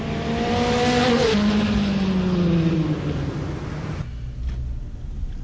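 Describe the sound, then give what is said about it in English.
A car engine roars loudly as the vehicle accelerates onto a highway, its droning pitch sliding as it goes, then settles into steady road noise. No one speaks. “No, we follow him. He's going onto a highway.”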